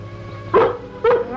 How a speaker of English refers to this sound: I thought I heard Lassie barking.